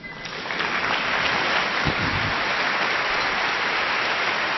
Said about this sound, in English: I like that applause.